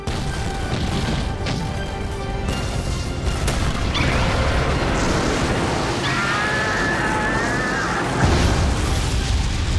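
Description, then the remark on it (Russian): Heavy cannon fire from several ships firing together on command booms out repeatedly amid continuous rumbling explosions and crashing debris, a loud, dense barrage with no talking. “Всем кораблям, огонь!”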